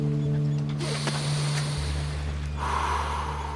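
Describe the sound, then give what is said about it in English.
A long, loud breath drawn in and let out, with a rushing, airy hiss that swells toward the end, set against a steady low hum. No one speaks. “He took a deep breath.”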